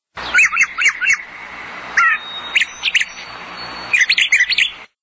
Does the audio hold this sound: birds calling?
yes